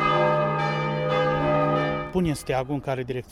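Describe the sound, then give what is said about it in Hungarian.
A church bell clangs in quick, steady strokes as an emergency alarm, its deep resonant tone ringing on between hits, before a voice begins speaking and the bell fades under it. “Ezt a szokást vezették be ismét több mint egy évtizede, és baj esetén ma is félreverik a harangokat.”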